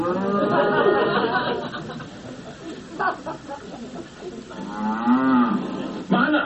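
Eight cows moo in long, drawn-out bellows that overlap one another, loud, with a brief pause midway before another deep, rising moo closes it out.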